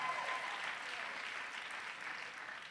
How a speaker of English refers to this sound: Come on, clap your hands real strong right now, because I sense something shifting in about 10 minutes.